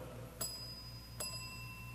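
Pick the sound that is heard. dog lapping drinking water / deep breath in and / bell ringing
bell ringing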